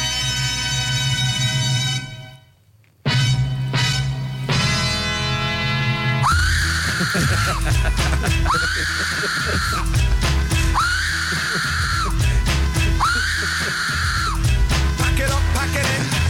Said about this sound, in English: And then we'll end on this little remix based on the Aztec Death Whistle.